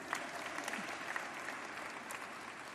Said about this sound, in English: You can clap. You can clap for that.